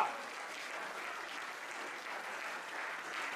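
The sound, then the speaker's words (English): An audience at a church service claps their hands in sustained, dense applause, a steady wash of many overlapping claps at moderate loudness with no talking over it. “Look, we are clapping.”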